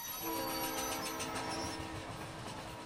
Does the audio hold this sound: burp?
no